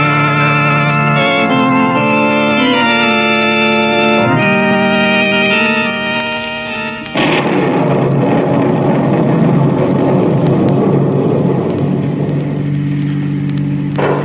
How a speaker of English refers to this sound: What a thunderstorm.